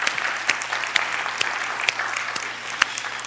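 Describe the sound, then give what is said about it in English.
A church audience claps their hands after finishing the Book of Revelation, in a dense, steady burst of applause, with a few sharper, louder claps standing out above the crowd's continuous patter. “I need somebody to get a clap. Hand.”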